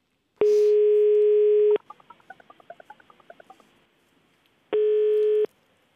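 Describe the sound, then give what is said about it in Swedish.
A telephone ringback tone on an outgoing call: a steady buzzing tone, a quick run of chirpy electronic beeps, then a shorter burst of the same tone, with no one talking. “Så vi tar helt enkelt och ringer upp honom.”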